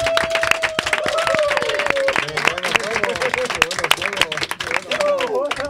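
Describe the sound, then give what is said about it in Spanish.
An audience applauds steadily throughout, a dense patter of many hands clapping, with voices calling and cheering over the top. “un aplaudiment, nois.”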